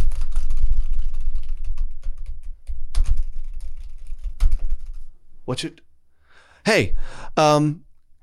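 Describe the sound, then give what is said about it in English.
A voice imitates a hotel clerk typing rapidly on a computer keyboard, a dense run of clicks and taps lasting about five seconds, followed by a few short, squeaky vocal noises. “This lady goes, okay. This is me typing, you know, okay.”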